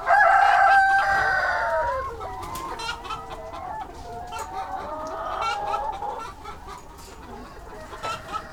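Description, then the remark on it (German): A flock of laying hens clucks and murmurs continuously inside a mobile coop towed by tractor across grass pastures between rows of poplars, opening with a louder, drawn-out call before settling into overlapping chatter from many birds. “So klingt das in einem der mobilen Ställe der Legehennen, die mit dem Traktor über die Hühnerweiden gezogen werden, immer dahin, wo frisches Gras gewachsen ist, zwischen den Pappelreihen.”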